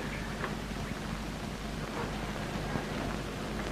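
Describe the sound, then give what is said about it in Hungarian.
Water splashes and burbles in a steady, continuous hiss that stays even in loudness for the whole stretch, with no voices and no pauses. “Kérem, én kopogtam, csak a víz csobogásától nem lehetett hallani a kopogásomat.”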